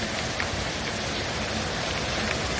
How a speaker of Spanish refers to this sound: El sonido de las tormentas pues se mezclaba, ¿no?, con los pasos, y en muchas ciudades como Málaga, Sevilla, Granada, Valladolid o Madrid pues impedía procesionar a diversas hermandades.